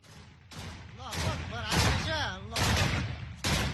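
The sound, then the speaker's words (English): Several loud bursts of gunfire ring out in quick succession, sharp, with voices shouting in between the volleys, as forces loyal to General Khalifa Haftar exchange fire with Tripoli-based National Unity Government militias south and east of Tripoli, Libya. “Forces loyal to Eastern Libyan military commander General Khalifa Haftar exchanged gunfire Friday with militias fighting under the banner of the Tripoli-based National Unity Government south and east of the capital.”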